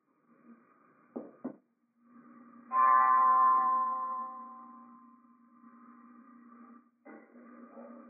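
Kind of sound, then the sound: signal or alarm, bell ringing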